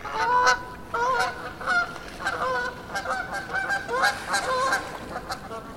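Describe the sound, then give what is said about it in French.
Geese honk repeatedly in a noisy, overlapping chorus, their nasal calls stacking up loud with barely a pause over about six seconds. “Les oies font quand même beaucoup de bruit.”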